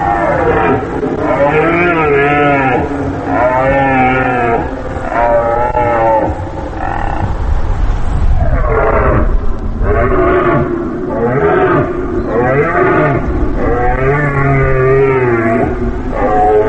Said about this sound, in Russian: Я предлагаю воспользоваться случаем и послушать оленя.